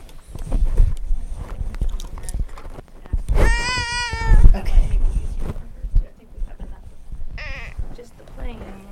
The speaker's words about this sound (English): What's next? Horse. Nay. Horse. Turn page.